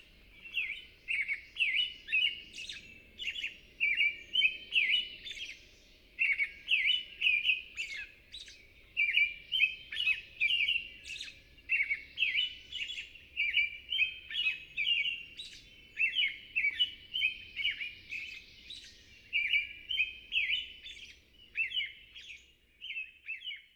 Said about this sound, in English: Familiar to most everyone, the Song of the American Robin is a rollicking series of wavering whistles.